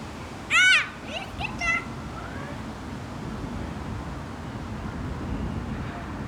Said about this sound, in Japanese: 広場では子供たちが鬼ごっこをしています。